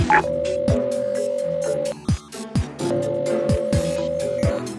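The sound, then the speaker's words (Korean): A phone's ringback tone sounds twice during a call to Olive Cookie that goes unanswered, each steady electronic burst lasting over a second with a pause between, over busy background music with deep thudding beats. “올리브맛 쿠키가 이번에도 도움을 줄 거야. 전화를 걸어보자.”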